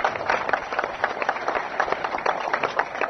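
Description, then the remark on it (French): A crowd applauds steadily in tribute to journalists, a dense patter of many hands clapping that holds at a fairly even level for a few seconds with no voices over it. “Applaudissez la cohorte de journalistes, applaudissez la chaîne ininterrompue de ceux qui ont porté haut les couleurs de la liberté.”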